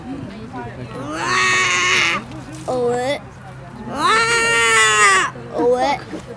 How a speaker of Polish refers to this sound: Dźwięk suchaka stepowego.